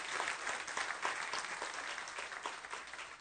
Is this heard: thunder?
no